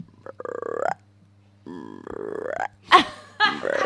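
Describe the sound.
A voice imitates a frog with a few loud, drawn-out croaks, each rough and buzzy with a slight rise in pitch, followed by a couple of shorter guttural bursts, performed at the Birdland.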